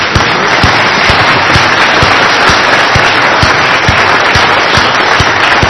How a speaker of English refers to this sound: Now, I don't know if Packer fans and Viking fans do this the same way, but where I come from, when we get really excited and something special has happened, we applaud.